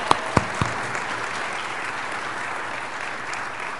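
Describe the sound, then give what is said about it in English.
An audience applauds steadily just before a church service, thanking the musicians for the music played beforehand, a dense wash of many hands clapping at an even level, with a few sharp louder claps standing out at the start. “And also, just before we begin our service today, I think we should give a round of applause and thanks to”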